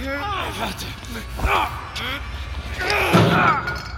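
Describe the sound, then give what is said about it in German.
A person runs full into a bench, producing one sharp, heavy thud partway through, surrounded by agitated voices shouting and gasping. “Die fickte Bank. Voll dagegen gerannt.”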